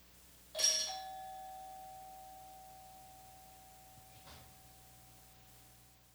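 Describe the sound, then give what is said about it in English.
A doorbell, pressed by a person, chimes once with a bright metallic onset, then a single clear tone rings on and slowly fades, with a softer second tap a few seconds later; no voices. “It was like somebody like made a circle motion with a bell and then rang it.”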